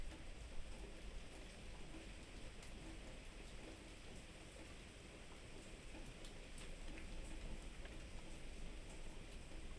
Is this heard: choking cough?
no